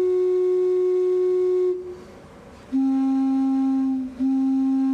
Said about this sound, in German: wo dann der Besucher auch selbst aktiv werden darf und auch mal eine Pfeife anspielen darf, um die Verschiedenheit der Klangfarben der einzelnen Pfeifen zu bekommen. Die klingt immer so ein bisschen wie Jim Knopfs Lokomotive, aber sie klingt.